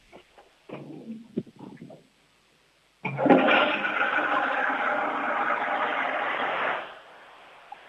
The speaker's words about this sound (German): Die war aber schön laut, deine Klospülung. Wahnsinn. Sehr cool.